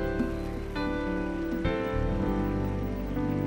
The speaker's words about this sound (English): Keep clapping as they come. Keep clapping.